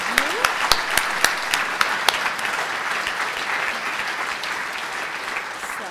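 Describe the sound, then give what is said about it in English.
An audience breaks into applause in thanks for support of a scholarship program, starting with a few sharp, distinct claps that quickly swell into steady, dense clapping from many hands, sustained at an even level throughout. “And so a hand of applause for their support for that scholarship program.”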